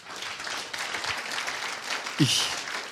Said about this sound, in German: Amen. Geben wir Gott einmal einen Applaus.